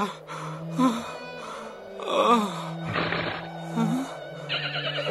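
A horse neighs and whinnies repeatedly in the desert, its voice rising and wavering through several drawn-out calls over a steady low drone, moderately loud, with no one speaking.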